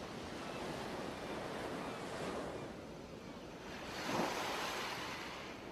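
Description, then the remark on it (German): Ocean waves at the sea roll in steadily on a sunny, warm day with a soft wash of surf, a slightly louder swell breaking near the end, while a light salty breeze hisses across the microphone throughout. “Und nun beginnt unsere gemeinsame Reise ans Meer.”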